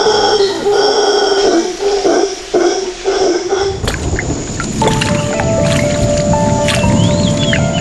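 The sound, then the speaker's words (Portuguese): Howler monkeys let out loud, frightening howling screams in repeated droning bursts, then the calls give way to a steady wash of rain-like noise with scattered high chirps. “E assim se tornam os mais pacíficos entre todos os macacos, apesar de seus gritos assustadores.”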